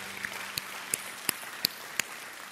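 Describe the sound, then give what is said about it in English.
A few scattered hand claps ring out at irregular intervals, faint, against a quiet hum with no voices, given as a clap offering to the Lord. “Give the Lord a clap offering today, would you?”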